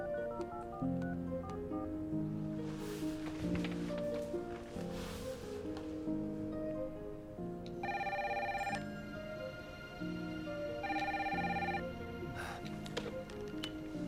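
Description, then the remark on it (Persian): A phone line ringing while a call is transferred to another number: steady melodic tones, with two brighter, buzzing ring bursts repeating near the end, fairly loud, with no voices. “منتظر باشید، تماس شما به یک شماره دیگر بعد.”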